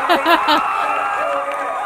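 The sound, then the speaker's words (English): A loud crowd roars and cheers continuously, many voices blending into a dense, steady wall of noise with a few brighter shouts rising early on. “I don't know, the crowd's too loud.”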